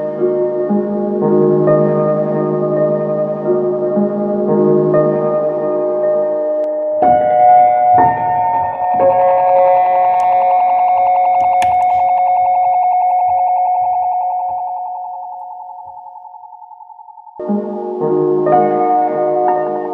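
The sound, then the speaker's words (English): A Make Noise Morphogene granular module fed through a Magneto delay, with the rest of the effects chain set to dry: dense, shimmering harmonic textures swell, then thin into a sustained ringing tone around the middle before the layered, bell-like texture returns. No talking. “the spring on the Magneto nicely links us to the next example, which is the Make Noise Morphogene and the Magneto. And that's all that's used in this example.”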